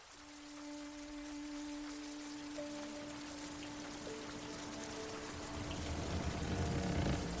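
Steady rain pours down at sea with a broad, hissing wash that swells louder toward the end, while a faint sustained hum drones underneath.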